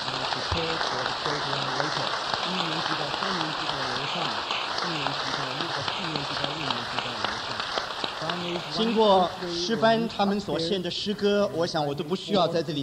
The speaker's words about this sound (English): 好吧，我们一起向着我们所爱的主献上我们的鼓掌，好不好？ We express our applause to our Lord.